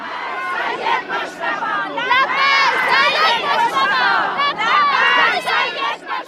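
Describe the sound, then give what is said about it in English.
A large crowd of mourners at the public funeral of Iran's late supreme leader, Ayatollah Ali Khamenei, in Tehran cries out together, many raised voices overlapping in loud, wavering wails and chants that swell and dip continuously throughout. “Crowds have gathered in Tehran for the public funeral of Iran's late supreme leader, Ayatollah Ali Khamenei.”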